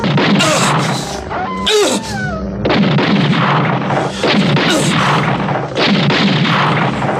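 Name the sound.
gunshots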